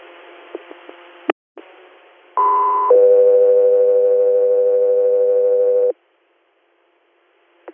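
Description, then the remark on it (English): Radio dispatch alert tones: a short higher tone steps down into a long, steady lower tone lasting about three seconds, loud and clear, preceded by faint static and clicks and followed by silence. “Scott 3 Air, stand by for tones.”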